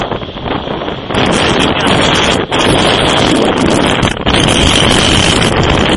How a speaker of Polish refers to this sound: Nie, no tak bez sensu wieje, że się nie da nic gadać.